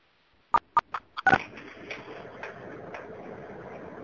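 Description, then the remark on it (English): A quick run of four or five sharp phone keypad beeps as star six is pressed on a phone, followed by a low, steady background noise with no talking. “Keep in mind, guys, like, go ahead and hit star six on your phone if you're still live.”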